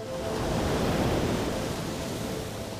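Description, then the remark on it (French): Waves wash steadily at a regular rhythm against the sides of a ship at sea sailing away from Algiers, a continuous rushing surge that swells slightly and then eases, with no distinct separate slaps and no voices. “Les vagues venaient fouetter les flancs du navire à un rythme régulier, comme si la mer à l'instant égrenait des prières.”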